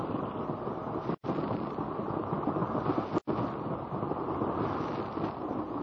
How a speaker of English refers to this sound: The rushing of the waters echoes and reverberates from the rocky walls with a noise like thunder.